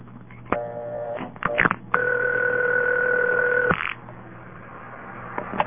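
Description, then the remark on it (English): Bell System step-by-step telephone exchange dialing tones in Enumclaw, Washington, recorded June 23, 1968: sharp switching clicks and a brief buzzy tone, then a steady two-pitch signal holding for almost two seconds before cutting off, with faint clicks over line hiss. “This is Bell System Step. Dialing a 1 immediately gives a special operator.”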